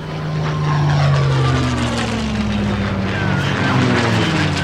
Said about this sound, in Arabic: نداء إلى جميع الوحدات، نداء إلى جميع الوحدات، يبدو أننا نتعرض لهجوم ياباني، طائرات تحلق باتجاهنا وسفنهم الحربية تقترب منا.